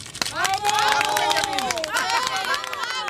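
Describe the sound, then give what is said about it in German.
Spectators cheer loudly and continuously as Benjamin Blümchen hands a boy a bundle of banknotes, with whoops and excited high-pitched voices rising and falling over scattered clapping for about three seconds. “Unter dem Jubel der Zuschauer drückt Benjamin dem Jungen ein Bündel Geldscheine in die Hand.”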